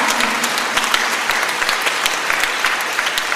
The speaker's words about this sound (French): Applaudissez cela. Applaudissez cela.